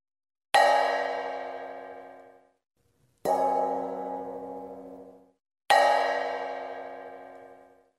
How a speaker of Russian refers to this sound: сказала большая сковородка. «Послушайте теперь меня». И она зазвонила, как колокол.